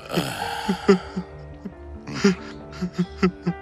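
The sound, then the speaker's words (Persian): A man sobs, with broken, shaky voiced cries and sharp catching breaths coming in uneven bursts, rising toward the end. No words are spoken. “پاشو بس دیگه، مرد که گریه نمیکنه.”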